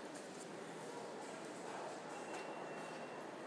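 A fast train's steady, rushing rumble fills the air as it draws toward a station platform, a broad continuous roar with no voices, holding at a fairly even level throughout.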